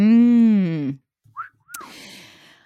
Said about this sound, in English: Oh, you're heckling and wolf whistling again on the podcast.